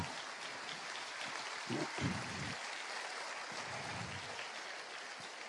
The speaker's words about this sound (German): Applaus für Cedric